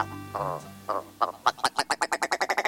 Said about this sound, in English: With its rubbery-sounding rattles and clownish red eyebrows, the ptarmigan is quite the standout northern bird.